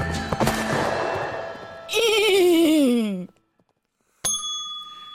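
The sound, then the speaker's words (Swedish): In a radio studio, a person imitates a horse riding across the prairie, neighing: a loud, shaky, descending whinny lasting over a second. Clattering comes before it, and a single bright bell ding follows after a short pause. “Ja, det var ju en häst som gnäggar där då om man inte...”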